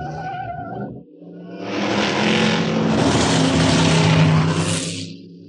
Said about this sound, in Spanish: Y han sido lanzados en su persecución muchos carros potentes y hasta un helicóptero. Una feroz brigada de matones lo persiguen.